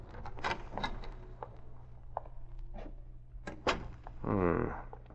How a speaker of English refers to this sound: Britt Reed left Cato to guard the car and quickly made his way by means of the back entrance to the darkened offices of Biography Incorporated. Using his skeleton key, he quietly entered the offices.